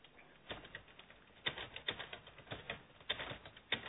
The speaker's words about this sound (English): We have somebody typing.